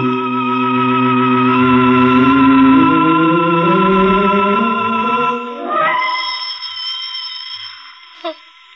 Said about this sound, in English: Still, this isn't anyone. This is the phone. No, I'll let it ring. I won't leave this room. Let it ring. He said the phone was dead.